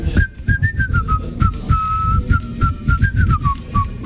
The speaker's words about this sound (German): in diesem Jahr der perfekte Nikolaus und Sie erkennen ihn an seinem schrägen Pfeifen.